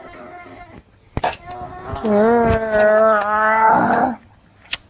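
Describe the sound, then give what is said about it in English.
A child growls like an animal, one loud, drawn-out vocal rumble lasting about two seconds, with a few sharp taps before it and after. “I like your growling. Everybody likes it when you growl.”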